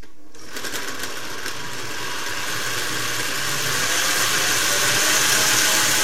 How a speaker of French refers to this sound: Je retire les feuilles de menthe et un peu d'eau. Je mixe.